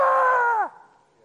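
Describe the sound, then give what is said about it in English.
One voice lets out a loud, sustained "ahh" scream for over half a second, then the pitch drops away, imitating a panicked crowd screaming all at once, followed by quiet. “I want you to imagine a million people going, "Ah!"”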